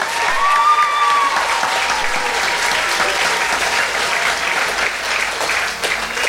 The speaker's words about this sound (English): Donc on peut vraiment l'applaudir bien fort.